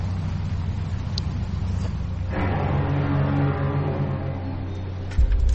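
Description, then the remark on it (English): A car engine rumbles steadily, then grows louder and fuller about halfway through as the vehicle pulls up, its low droning hum continuing to the end with no voices. “for those who are listening to the audio, there's a car pulling up”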